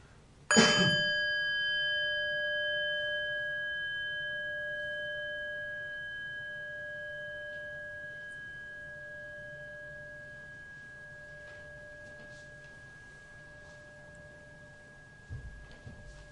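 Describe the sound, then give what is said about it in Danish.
A single strike on a small bell during a meditation rings out clearly, its pure, shimmering tone slowly fading over many seconds. “Ja, så der kommer lige et lille klokkeslag.”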